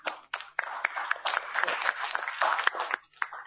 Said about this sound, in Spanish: También un fuerte aplauso a las chicas.